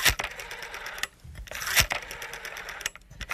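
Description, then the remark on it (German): A rotary telephone dial turning and whirring back, a rapid mechanical ticking in short bursts with brief pauses between them, fairly loud and with no voices. “Die gute alte Wählscheibe eines Telefons.”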